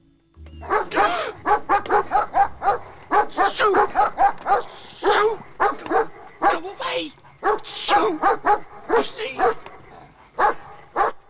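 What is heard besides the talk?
large dog barking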